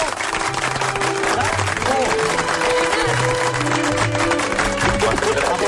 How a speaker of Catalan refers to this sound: Un aplaudiment. Bravo, bravo, bravo.